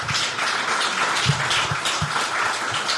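A crowd gives another round of applause for two people, a dense wash of many hands clapping at once with a few sharper individual claps standing out, sustained at an even, fairly loud level throughout.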